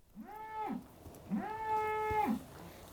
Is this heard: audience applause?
no